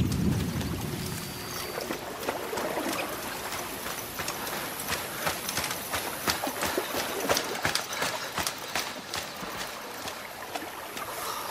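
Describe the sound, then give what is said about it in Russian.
Steady rushing water fills the whole stretch with a dense, broad hiss, broken by scattered sharp knocks and splashes. It is fairly loud, with no one talking. “Что за шум? Это вода, а значит нас ждет замаскированная лодка.”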